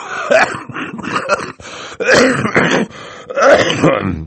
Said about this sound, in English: Mr. Poe opened his mouth to say something, but erupted into a brief fit of coughing.